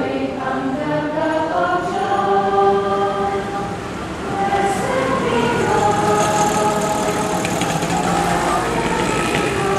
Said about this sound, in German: Besucher sind irritiert, wenn sie die Kapelle zum ersten Mal betreten. Hier ist es laut, der Straßenlärm dringt durch die offenen Fenster.